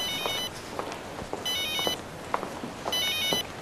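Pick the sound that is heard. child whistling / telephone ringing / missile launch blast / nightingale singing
telephone ringing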